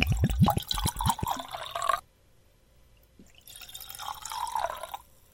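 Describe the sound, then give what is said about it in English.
Wine pours and splashes into a glass for about two seconds with bubbly, dripping sounds, pauses in near silence, then a second, softer pour follows. “Pouring a little heavy today.”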